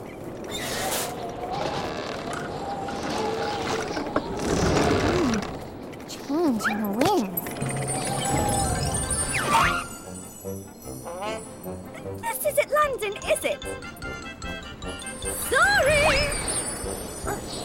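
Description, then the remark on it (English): A dog named Toto barks in short, excited bursts over busy clanking and creaking mechanical noise, with voices and bright tinkling sounds mixed in, the whole scene loud. “Toto, stop that barking!”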